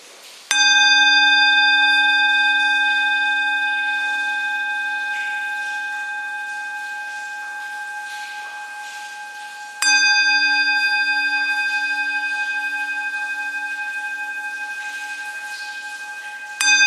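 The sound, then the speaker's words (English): A single bell is struck three times at a retreat, at the start, near ten seconds and at the very end, each strike ringing out with a long, slowly fading tone. Clear and resonant, with no talking. “Okay, so let's start by listening to the sound of the bell.”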